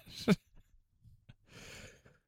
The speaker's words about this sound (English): As I slept a bunch, and I'm talking about falling asleep at the movie theater, and here I am fighting back a yawn.